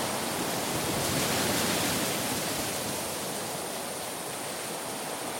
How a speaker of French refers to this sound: On entend le vent à travers le maquis, on entend des insectes, c'est le début de l'été. L'enregistrement a des qualités très spécifiques. Un sentiment et un son qui n'existent pas en Australie.